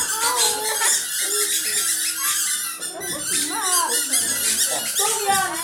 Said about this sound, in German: Sie bekommen vom Deutschen Musikrat kleine gelbe Quietscheentchen. Nicht für die Badewanne, sondern zum Komponieren. Und damit explodiert der Lärm im Klassenzimmer.